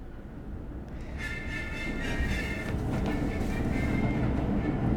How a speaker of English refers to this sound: Okay, here we go. It's the shit train, folks. It's the M train.